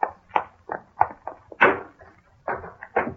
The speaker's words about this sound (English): I pushed open the swinging door of the hotel and walked up to the reception desk.